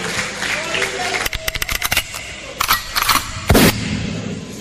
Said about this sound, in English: Please give all the comedians a round of applause. Thank you very much.